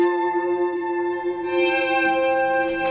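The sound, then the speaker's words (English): A sustained, shimmering guitar-like swell hangs in the air, played through compression, chorus, heavy reverb and echoing delay, with soft high-pitched flickers drifting in near the end; no one speaks. “Some compression, chorus, lots of reverb, and lots of delay, so I can do my.”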